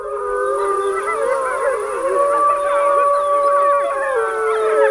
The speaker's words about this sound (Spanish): y estaban allí, mira, el lobo manda callar.